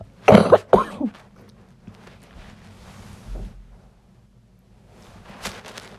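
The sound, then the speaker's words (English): A couple of sharp coughs burst out at the start, followed by quieter rustling and low background rumble, with a few faint breathy noises near the end. “There's a little coughing.”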